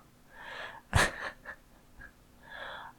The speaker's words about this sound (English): Aw, that little gasp.